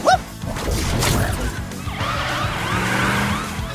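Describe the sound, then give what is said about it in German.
A police car siren wails in quick repeating up-and-down sweeps, fairly loud and close, following a brief clattering thud at the start, with no one speaking. “Er liebte es, sie hinunterzurutschen und landete wenig später auch schon in seinem Polizeiauto.”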